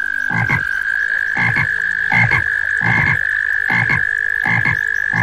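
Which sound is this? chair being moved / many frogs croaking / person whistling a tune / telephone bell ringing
many frogs croaking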